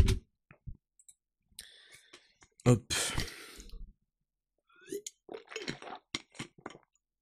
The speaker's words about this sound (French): Je prends une gorgée de Play Endurance, ça va m'aider.